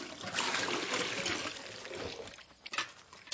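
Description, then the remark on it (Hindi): Bath water pours steadily into a container for about two seconds, a broad splashing hiss, then tapers into a few softer trickles and drips. “ये थारे नान का पानी है।”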